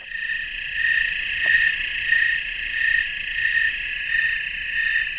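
A dense insect chorus in a goldenrod meadow, with overlapping trills and buzzes humming steadily and a faint rhythmic pulsing swelling about twice a second. No voices are heard.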